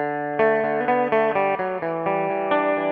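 A guitar riff played on a 6-string electric guitar, a steady run of rhythmic chord strums with bright sustained harmonics and a clean, even tone, played alone with no voices.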